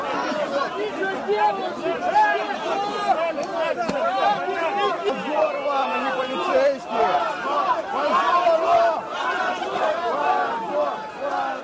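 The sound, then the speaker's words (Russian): A large crowd of opposition protesters mixed with people celebrating Russia Day on Tverskaya Street in Moscow talks and shouts at once, a dense, steady wall of overlapping voices with occasional louder calls rising above the babble, continuous throughout. “Оппозиция смешалась с празднующей и не имеющей отношения к маршу протеста толпой.”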